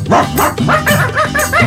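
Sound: dogs barking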